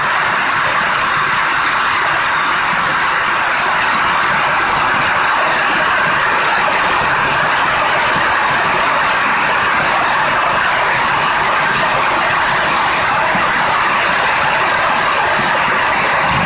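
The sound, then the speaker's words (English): Heavy rain pours down in a dense, unbroken hiss that stays loud and even throughout, with a faint low rumble of thunder underneath and no one speaking. “It's raining really heavily. Raining cats and dogs. And there's thundering in the background, but I hope you can still hear me.”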